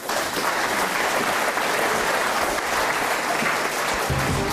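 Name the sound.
audience applause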